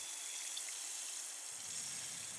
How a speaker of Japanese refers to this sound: シュワシュワと弾ける音、なんだか現実から離れたような感覚になります。